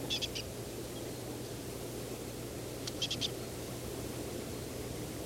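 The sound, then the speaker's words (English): A small bird foraging in a pine near needle tufts, about 3-4 meters away, gives two brief bursts of high, quick chirping notes, three or four each, separated by a few seconds, over a steady background hiss and low hum. “Aiming at the bird that appears to be making this call.”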